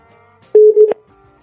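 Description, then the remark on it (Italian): A single steady electronic phone tone, the ringing heard on an outgoing call, sounds clearly for under half a second, set against faint background hum with no voices. “E io lo chiamo intanto, così squilla il tempo di rispondere.”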